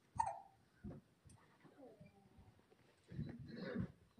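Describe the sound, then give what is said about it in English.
A baby hiccups several times in short, irregular bursts, small and quiet, with soft murmuring voices in the background, during the baby's baptism ceremony. “You got the hiccups.”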